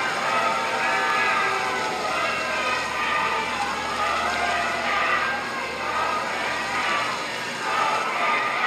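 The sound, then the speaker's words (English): A large crowd of bystanders chanting "Vote him out" together outside where Ruth Bader Ginsburg lies in repose, as President Trump and First Lady Melania Trump stand masked; their voices merge into a loud, continuous roar with a repeating rhythmic swell throughout. “That is a crowd of people chanting, "Vote him out," while President Trump and First Lady Melania Trump stood masked outside of the area where Ruth Bader Ginsburg is currently lying in repose.”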